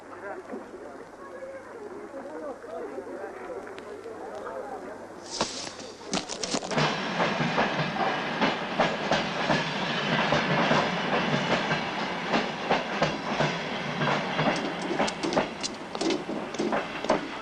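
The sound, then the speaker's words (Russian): After a few seconds of quiet background murmur, a train suddenly roars in, its wheels clattering over the rails in a steady, loud rumble with faint voices underneath. “Внимание! До отправления нашего поезда осталось 5 минут.”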